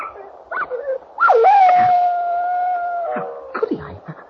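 A dog lets out one long, loud howl that rises and then holds a steady wavering pitch for nearly two seconds, framed by short yelps and whimpers before and after.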